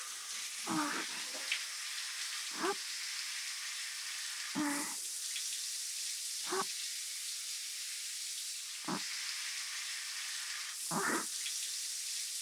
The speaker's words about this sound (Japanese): まずは右腕の泡をきれいに流して、指の間に残ったまま、きれい、きれいに。